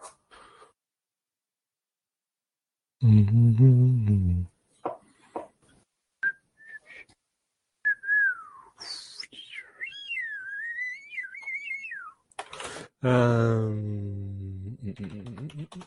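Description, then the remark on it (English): A person whistles a wavering, tuneful melody for several seconds, bracketed by short bursts of low humming, with a few faint clicks in the quiet gaps. “Semi-pro whistling and humming.”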